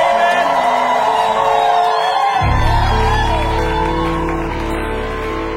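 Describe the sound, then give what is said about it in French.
A crowd erupts in loud overlapping shouts and joyful cries of praise to God, sustained throughout, with a deep low rumble joining partway in as the noise swells. “Y a-t-il un saint qui peut pousser des cris de joie pour Dieu?”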